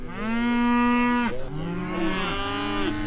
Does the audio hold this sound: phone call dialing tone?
no